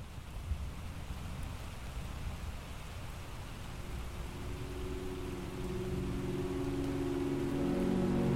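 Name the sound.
steady heavy rain downpour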